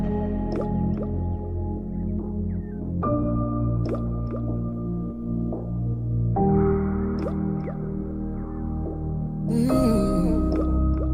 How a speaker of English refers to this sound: 接下来请各位收听 … 演唱的 … 的歌曲，请各位欣赏